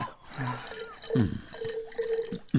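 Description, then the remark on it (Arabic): Cold, fresh drinking water pours into a cup in a couple of short bursts, the gurgling pitch rising as it fills, moderately loud. “امسك هذا القدح لأسكب الماء.”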